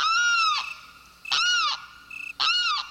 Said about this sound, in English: A male limpkin has awakened. This relatively tall bird, whose dark brown feathers are streaked with white, stretches and calls again.